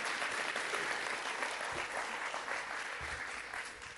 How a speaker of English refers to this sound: Other than that, would you give her another warm round of applause?